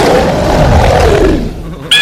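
A loud, growling angry-bear roar sound effect, the 'angry West Hollywood bear', rumbling low and harsh for nearly two seconds before fading, then a sharp bright burst cuts in at the end.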